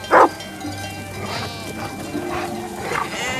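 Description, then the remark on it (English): A female sheepdog gives one sharp bark right at the start, followed by softer, drawn-out sheep bleats from a flock in the background outdoors. “She spends her time looking out for sheep that stray from the flock.”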